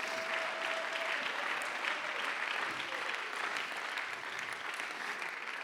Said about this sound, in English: Somebody clap your hands and bless the name of the Lord.